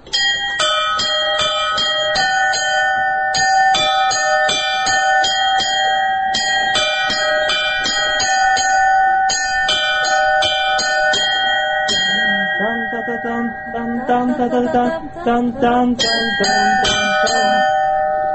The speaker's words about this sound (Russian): Здесь уже зависит от того, какие колокола. Удастся ли из них подобрать какую-нибудь мелодию.